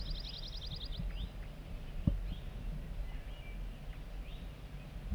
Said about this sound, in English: We're getting zert zert song from bird 4-3. Very soft.